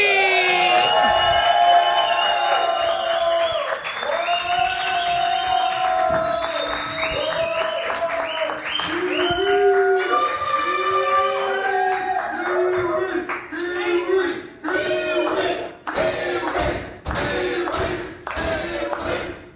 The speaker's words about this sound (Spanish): ¡Fuerte aplauso